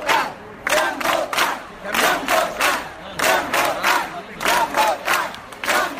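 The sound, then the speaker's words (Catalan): A large crowd at a rally in Móra d'Ebre chants the slogan "Ja hem votat" ("We have already voted") in unison, repeating the same loud, rhythmic phrase over and over with brief pauses between each round of voices. “La concentració a Mora d'Ebre va finalitzar amb una gran ovació als bombers voluntaris i als agents dels Mossos d'Esquadra i acabava amb aquest crit, el de ja hem votat.”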